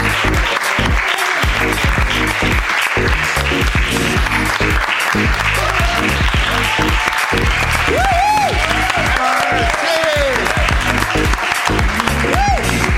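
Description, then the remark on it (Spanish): Sustained audience applause, loud and steady for several seconds, with scattered cheers and whoops rising above the clapping, as an audience member is called up to speak. “un aplauso.”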